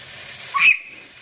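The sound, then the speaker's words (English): Chicken frying in hot oil as an 11-year-old girl cooks it: a steady, bright sizzling hiss, broken midway by a brief, louder high-pitched squeal or pop before the sizzle settles again. No one speaks. “as she cooks chicken in hot oil.”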